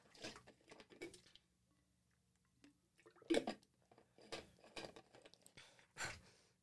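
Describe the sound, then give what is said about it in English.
Someone takes a drink of water, with several wet gulps and swallowing sounds separated by short breaths and quiet pauses, and no talking. “One second, I'm taking a drink of water.”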